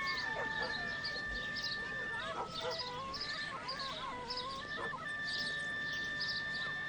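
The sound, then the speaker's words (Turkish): Partridges cackle in a lush green steppe in busy, overlapping bursts of raspy chattering calls, steady throughout, with a sustained tonal hum running beneath the birds. “Yamyaşıl çöldə kəhliklər qaqqıldayırdılar.”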